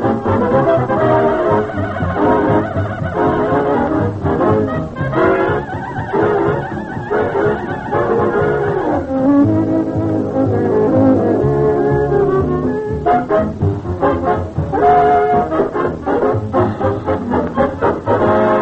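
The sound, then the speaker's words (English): A ragtime band plays a lively, bouncy tune through a car radio, steady and fairly loud throughout with a slightly thin, boxy tone and no one talking over it. “what you just heard was … playing …”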